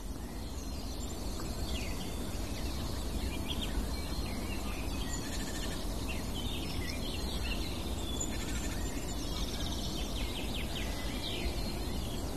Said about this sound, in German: Hell und klar die Grasmücke wieder.